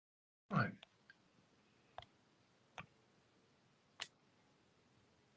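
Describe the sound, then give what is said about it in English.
A few scattered keystrokes on a computer keyboard: one louder clack, then several sharp, isolated taps at irregular intervals, against a quiet background with no talking, as someone types while trying to get the picture back on. “I can hear you typing.”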